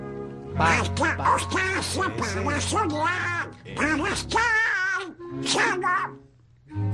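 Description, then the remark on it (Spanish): A raspy, garbled duck-like quacking voice in the manner of Donald Duck chatters almost nonstop for several seconds, loud, with brief pauses between bursts; likely a person imitating it. “Estoy hablando del Pato Donald.”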